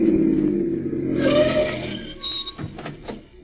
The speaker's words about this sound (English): Listen, here comes another car. Flag them, will you? You don't have to flag them. They're stopping.